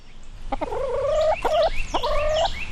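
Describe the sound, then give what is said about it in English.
Chickens cluck and call on a shelter's farm in Rome, three drawn-out warbling calls in quick succession, fairly loud, with no one talking. “As we walk past the chickens and Blackberry the rabbit”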